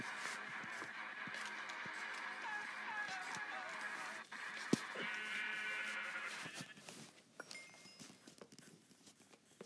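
Repeated sheep bleats from a video game as the players keep destroying sheep, wavering and nasal, overlapping one another with a few sharp clicks and thuds mixed in, then thinning out toward the end.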